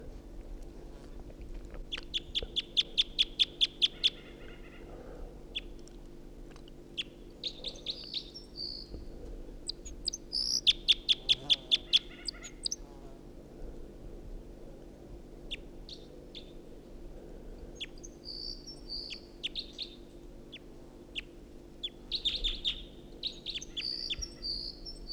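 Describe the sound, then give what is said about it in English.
Two wild birds sing in alternation, one directly overhead and the other in a tree above a net, bright high trills and rapid chirp bursts recurring every several seconds over a steady low hum, with no one talking. “Got two singing birds here.”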